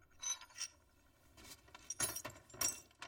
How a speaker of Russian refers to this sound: Анна подбирает осколки лампы.